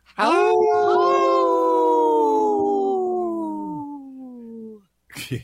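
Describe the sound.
A person imitates a wolf howl: one long, loud howl held for about four seconds, its pitch sliding slowly downward before fading, followed by a brief rustle.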